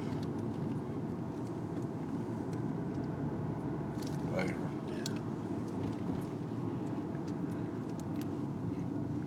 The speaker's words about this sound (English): Truck.